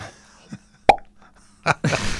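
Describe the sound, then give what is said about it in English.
A voice imitates bubbles with a sharp, hollow mouth pop, followed by a couple of softer plopping bursts and a stretch of breathy noise. “So we made bubble noises instead, right?”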